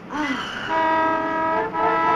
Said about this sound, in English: you know, there's a lot of traffic noise. Do you think it's going to bother you? Well, in fact, there is quite a bit of noise early in the morning. Late afternoon, too. With trucks and things. Big trucks.